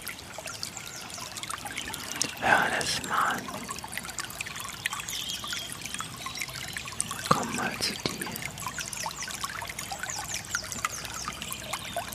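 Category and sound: nature, water trickling and splashing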